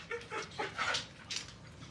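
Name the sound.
small dog barking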